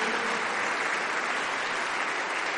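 Steady, dense applause from a large crowd, given in praise of the Lord Jesus Christ, fills the whole stretch, many hands clapping at once with no pauses and no voices standing out.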